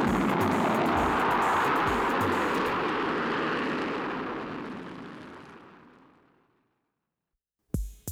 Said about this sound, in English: I hop in the air car, flip on the protective shield, and blast my butt out of there.